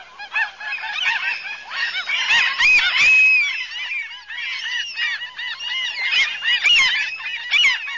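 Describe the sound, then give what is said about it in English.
A small flock of gulls calling nonstop: loud, overlapping squawks, honking cries and a few drawn-out mewing notes form a dense, steady chorus, with no voices. “If you sit long enough next to a small flock of gulls, you can hear every single sound they make.”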